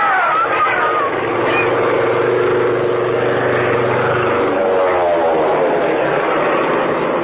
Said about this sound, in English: The plane was low, making a run right down Main Street. No bombs, no strapping, just leaflets. A flurry of leaflets, and then it was gone.